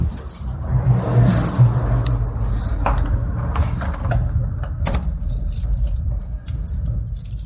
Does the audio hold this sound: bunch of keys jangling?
yes